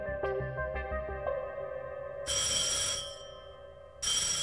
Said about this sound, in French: Le 18 août, à 16h30, à l'ambassade, le téléphone sonne.